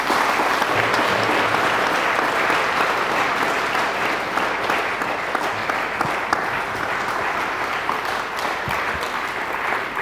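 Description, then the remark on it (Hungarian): Sustained applause from a sizable audience at an award ceremony, honouring an award recipient: a dense, steady clatter of many hands clapping at even loudness for about ten seconds, with no speech over it. “Tapsoljuk meg Hol Andrást!”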